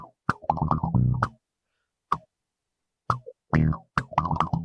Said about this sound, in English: it's cool to hear … play kind of palm muted with the envelope filter